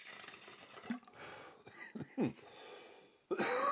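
human body sound, coughing

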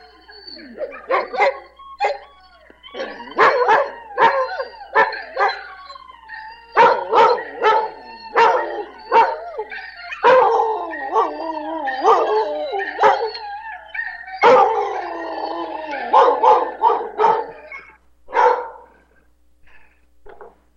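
animal, dog howling

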